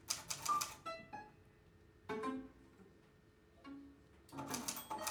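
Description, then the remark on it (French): Typewriter keys clatter in quick bursts as a letter is typed, then the small end-of-line bell rings once with a bright, lingering tone, followed by the carriage being pushed back and more typing. “C'est celui que produit cette petite cloche qui annonce la fin des lignes.”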